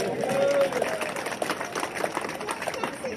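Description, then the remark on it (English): An audience claps in a dense, steady patter that fills the whole stretch, with crowd murmur and a brief cheer near the start, then slowly thins out. “Doesn't that deserve a round of applause?”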